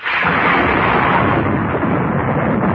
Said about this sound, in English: No thunder before it's time.